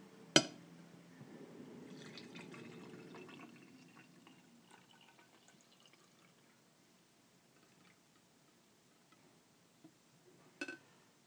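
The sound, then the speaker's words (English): A sharp clink, then liquid pours steadily into a cup for a few seconds before trailing off into faint drips and small sounds, ending with another couple of clinks. “I'm going to pour my cup here.”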